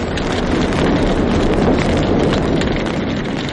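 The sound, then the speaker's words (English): A loud, steady roar of a blaze in half an acre of piled wood, a solid block of flame reaching hundreds of feet into the air, a dense rushing wall of noise with faint crackles running through it, unbroken and without any voices. “Half an acre of piled wood is ablaze, and a solid block of flame is roaring hundreds of feet into the air.”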